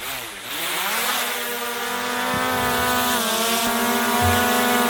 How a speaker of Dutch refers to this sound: Ja, dit is een drone die we hoorden, hè? Ja, precies. Ik dacht eerst vervelende muggen.